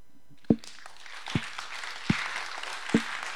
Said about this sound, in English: I want you to take it and just start clapping.